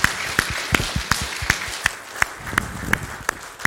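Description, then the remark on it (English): An audience at an event gives its organizer a round of applause: a soft wash of scattered clapping, punctuated by sharp, evenly spaced loud claps at a steady rhythm, roughly three per second. “So I think we all need to give him a round of applause.”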